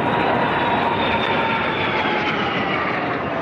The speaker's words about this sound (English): And really, the only thing that can top an 82-gun salute is a 70-plane flyby.